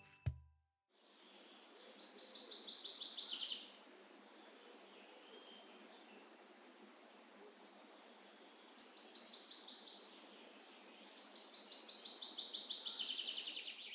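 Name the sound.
birds singing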